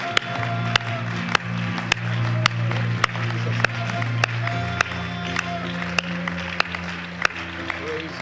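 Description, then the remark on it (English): A church audience claps in worship and praise in steady unison, about a dozen sharp, evenly spaced claps keeping a brisk beat over sustained organ-like chords and a low crowd murmur. “Why don't we praise him with a hand clap of worship and praise together?”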